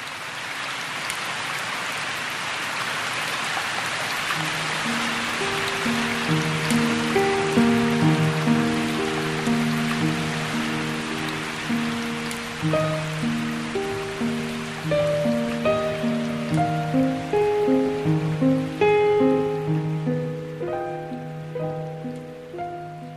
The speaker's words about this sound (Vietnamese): Không có gì làm cho tôi sợ hơn là cơn mưa lúc nửa đêm. Vì với riêng tôi, nhìn giọt mưa rơi long lanh, nghe tiếng mưa rì rào, tí tách, chẳng khác nào những lời thì thầm bên tai, nhắc nhở lại quá nhiều nỗi buồn của cuộc đời đã qua.